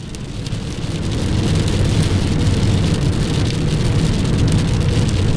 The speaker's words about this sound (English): Got some serious rain going on here. You hear that shit?